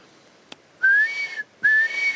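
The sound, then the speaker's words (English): A person whistles two rising, sustained notes imitating the call of a blue duck while hunting for the bird, each note about half a second long with a brief gap between, clear, with no talking. “whistle like that. That's a pretty poor imitation, but. We're on the hunt for a feel, a blue duck.”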